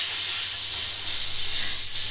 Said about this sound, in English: Traditionally greeted by the audience with loud hissing, King Rat.